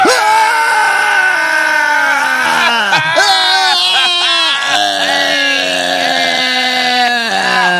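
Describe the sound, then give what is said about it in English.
Loud voices wail in a siren-like imitation of a party alarm, sustained tones that slide down and then jump back up in several repeating sweeps, with no pauses between them. “And we know it's a party because we hear the party alarm.”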